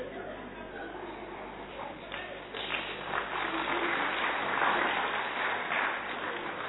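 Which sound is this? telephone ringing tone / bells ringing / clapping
clapping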